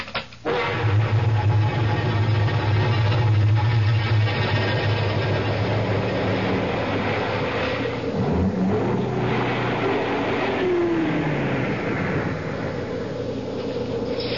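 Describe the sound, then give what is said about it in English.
A car engine runs steadily with a low droning rumble as the vehicle drives along, loud, continuing without pause for the whole stretch. “I guess this is as far as the car can take us.”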